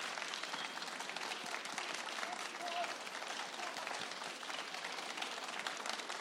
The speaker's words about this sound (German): Ich finde, das haben Sie wunderbar gemacht. Und ich bitte einfach nochmal um einen Applaus für unseren tollen Pianisten.